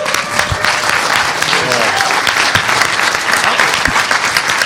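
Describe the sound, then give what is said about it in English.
An audience bursts into steady, loud applause, a dense wash of clapping hands that holds at an even level for several seconds with a few voices murmuring underneath. “Good applause line.”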